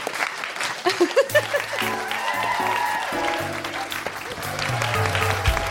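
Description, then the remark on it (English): An audience at a live show at the Soho Theatre claps and cheers in a dense, steady wash of applause, while a music track with sustained low tones starts after about a second and plays beneath it. “I must that should be applauded.”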